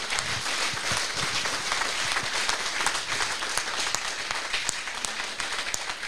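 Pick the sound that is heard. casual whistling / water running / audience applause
audience applause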